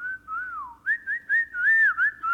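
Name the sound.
imitated whistling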